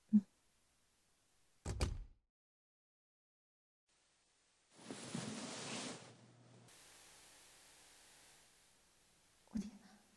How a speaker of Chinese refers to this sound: 刚刚听到开门的声音